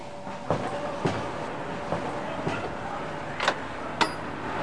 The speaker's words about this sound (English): Wait, cut, cut, cut. Was that the door?